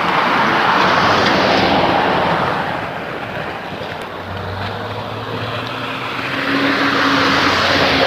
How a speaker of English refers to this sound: Just a lot of traffic this morning.